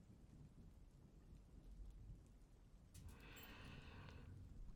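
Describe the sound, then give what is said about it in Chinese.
Steady rain patters throughout while low thunder rumbles underneath; partway through, a brighter wash of rain or running water swells in and carries to the end. No one speaks. “今天下雨，就稍微热一点吧。”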